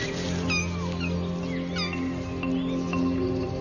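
Several two-week-old lynx kittens mew repeatedly while their mother is away, in high, thin cries overlapping at irregular intervals over a steady low hum, fairly clear.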